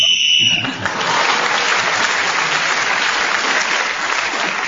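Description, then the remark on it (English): A sharp, high whistle blast ends a round of a game, sounding for under a second, then loud, steady applause from an audience takes over and continues to the end. “You've got a point for speaking as the whistle went.”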